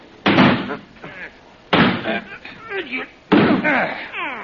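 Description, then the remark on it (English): A locked door is rammed with a shoulder, with police present: three heavy, booming slams about a second and a half apart, each ringing briefly, with men's voices murmuring between the blows. “Put your shoulder against here,”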